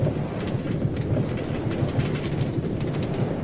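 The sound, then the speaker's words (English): A steady low rumble of a train rolling along the tracks, with faint repeated clacks and a hissing wash on top, continuous, no voices. “You're on the train.”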